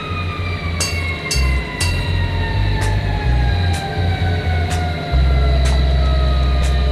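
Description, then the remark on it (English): Emergency vehicle sirens wail steadily with slowly falling pitch, over a heavy rumbling engine and intermittent sharp clicks or bangs, amid smoke and a great black cloud; loud, with no talking. “Sirens, smoke, a great black cloud darkening what's left of the day.”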